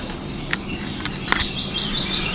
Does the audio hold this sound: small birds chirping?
yes